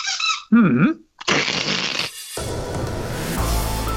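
A rubber duck toy squeaks a few times in quick, wobbling bursts, loud and close, followed by a rush of broad noisy sound.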